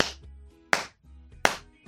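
hand clapping

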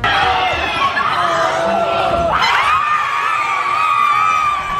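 crowd cheering wildly

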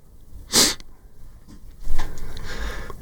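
sniffle

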